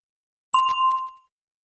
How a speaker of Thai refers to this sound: A question for you เซอร์รอฟังเสียงกระดิ่งก่อนจะตอบ When did your parents get married?